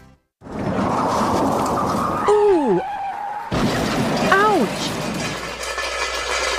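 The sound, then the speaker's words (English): A car's tires screech in two sharp, wavering squeals over a loud, steady roar of engine and road noise, with an abrupt jolt between them as the car crashes, and the rumble continuing afterward. “No one ever wants to hear those sounds, but if you do, remember this name: Wheelway Auto Body and Collision Center.”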